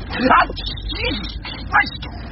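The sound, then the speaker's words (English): A small dog lets out two sharp, high-pitched yips about a second and a half apart, with a fainter whine in between against a low background hum. “For the sake of the wee dog.”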